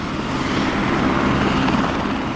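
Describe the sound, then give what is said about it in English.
A tour helicopter drones steadily overhead, its broad engine and rotor roar filling the air at a constant, fairly loud level with no voices. “Chopper tour operators say business has taken off in the past few years, with nearly 60,000 tours given in just the past year.”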